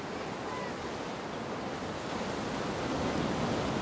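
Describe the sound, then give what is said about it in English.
Steady, broad wash of ocean surf rolling onto a beach shore, a continuous hiss of breaking water that swells slightly toward the end, with no voices. “At the beach, Maya and Pedro walk side by side on the shore.”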